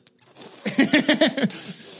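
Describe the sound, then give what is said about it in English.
A voice imitates a snake's hiss with a quick run of about five breathy, sputtering bursts, moderately loud, with faint hissing before and after. “a bunch of snake-headed people with long tongues going, you know. It's just like, it's crazy, man. It's just constantly hissing.”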